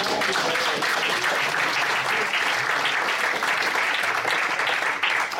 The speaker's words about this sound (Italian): Qua ci vorrebbe un applauso, secondo amen.